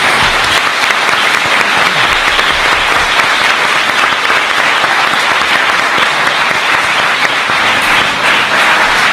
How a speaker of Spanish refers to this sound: Así que os pido un aplauso para ellos.